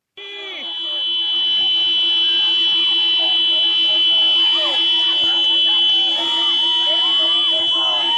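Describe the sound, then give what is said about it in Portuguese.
In Maputo, Mozambique, motorists stop their vehicles for 15 minutes and honk in protest. Car horns blare in a long, unbroken chorus of steady, buzzing tones that hold for the whole stretch, with a din of crowd voices and shouts rising and falling underneath. “Os que tinham viaturas pararam por 15 minutos e buzinaram em protesto.”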